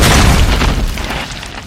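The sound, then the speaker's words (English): A heavy, dull crash with a booming low-end thud, the audio game's sound effect for running into a rock, loud at once and then fading gradually over under two seconds. No one speaks. “You run into a rock.”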